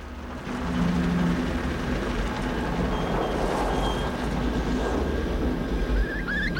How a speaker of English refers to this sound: A car speeds towards the abandoned church.